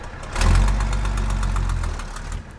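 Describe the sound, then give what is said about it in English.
A heavy red and black dump truck, loaded with mattresses, used tires and old bicycles under a green plastic tarp, rumbles past, a deep diesel growl with a steady rhythmic knock that swells quickly, holds loud, then eases slightly toward the end. No one speaks. “As he barks orders to the tow truck driver, a red and black dump truck lumbers by with mattresses, used tires, and old bicycles peeking out from under a green plastic tarp.”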